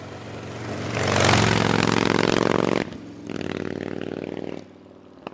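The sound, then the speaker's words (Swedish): A loud motorcycle engine revs hard for a couple of seconds, cuts back, then settles into a steady rumbling idle before falling quiet. “innan de ska ge sig iväg så måste de värma upp, för de bara står där och gasar och puttar jättelänge”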